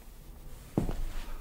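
Two soft footsteps land close together at night in an empty cathedral, their dull thuds trailing into a faint echo. Nobody speaks.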